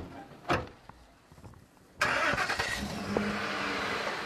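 The door of a white Ford pickup truck thuds shut on a farm next to U.S. 17 near the South Carolina border, then after a short quiet pause the truck engine cranks and catches, settling into a steady, rumbling idle. No one speaks.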